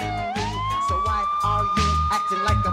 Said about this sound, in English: It was a three-decade ride-along filled with traffic stops, foot chases, drug busts, shirtless drunken ravings on porches, dazed suspects sitting on curbs, and a lot of sirens.